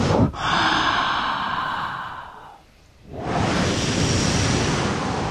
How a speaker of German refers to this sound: Deswegen seien Sie so lieb, stehen Sie alle mal geschwind auf. So. Und jetzt atmen wir mal alle ganz kräftig ein.